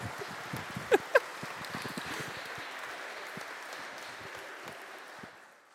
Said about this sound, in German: Es ist sehr schön, dass ihr applaudiert habt, weil das ist echt eine Mutprobe.